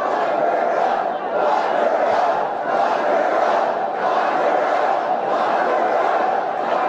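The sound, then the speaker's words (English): A large crowd at a rally, picked up by a microphone in the crowd, chants in unison, a loud, dense roar of many voices rising and falling in a steady repeating rhythm, with no single voice standing out. “They isolated one of the microphones from in the crowd.”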